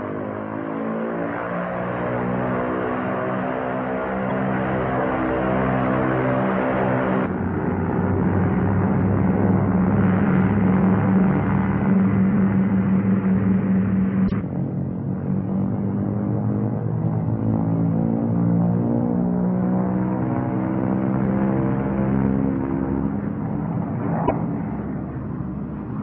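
Propeller aircraft engines roar at full throttle during a takeoff check, throttles advanced to maximum allowable manifold pressure with brakes held; a loud, sustained droning rumble with dense harmonic layers that shifts pitch partway through and keeps going steadily without any voices.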